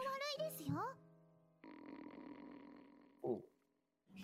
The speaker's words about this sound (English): I did a tummy fart.